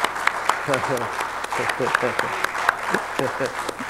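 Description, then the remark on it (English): A church audience claps steadily and loudly in a praise clap to the Lord, sharp overlapping hand claps filling the space while voices call out hallelujah and cheer over the applause. “Give me a chance to breathe, and you guys give the Lord a praise clap.”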